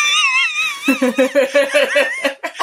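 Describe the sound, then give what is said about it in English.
High-pitched screaming voices: a sustained, wavering shriek gives way to a rapid run of about eight loud, rhythmic yelping bursts, almost like frantic laughter. “Listen to them all screaming, yes, we care.”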